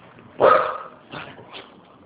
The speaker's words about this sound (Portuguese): Minutinho só, tem uns cachorros aqui, não tá deixando eu ouvir.